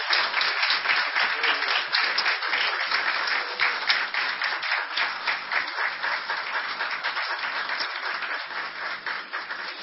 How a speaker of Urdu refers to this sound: آئیں اس خداوند کے لیے ہم تالیاں بجائیں گے جو فاتح ہے.